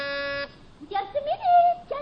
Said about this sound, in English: And I'll press the buzzer.